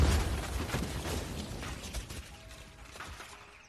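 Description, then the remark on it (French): A loud, rumbling blast with dense crackling and rattling debris, already at full force from the start and slowly fading over a few seconds. No voices. “Avec cette explosion, tout ce que j'avais gagné, c'était un ticket pour la maison de retraite.”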